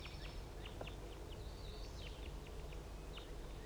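Crossbills chitter in the trees around a bird-netting site: quick, scattered chips and chitters repeat irregularly at high pitch, a few clustering together, over a steady low rumble of background noise.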